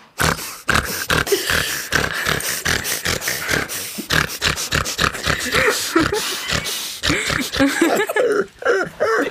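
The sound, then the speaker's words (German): A voice imitates a grunting, pig-like laugh like that of an acquaintance, with rapid snorting bursts repeated in quick succession for several seconds, loud, with no speech. “Ich finde es auch sehr lustig, wenn irgendwer beim Lachen irgendwie so grunzt.”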